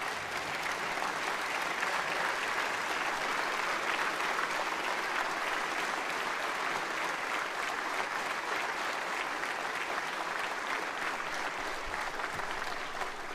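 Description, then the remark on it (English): Sustained applause from a standing audience for First Lady Supriya Jindal, a dense, steady wash of many hands clapping at an even loudness for the whole stretch, with no voices standing out. “If you would please stand, if you'd please give Supriya Jindal a great round of applause.”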